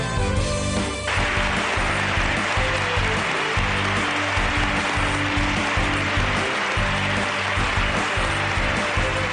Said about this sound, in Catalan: Aquests aplaudiments que esteu sentint és un dels sons que a mi m'ha arribat al cor. I li porto durant moltes dies. Són aplaudiments de fa 4 dies a l'Assemblea de Madrid.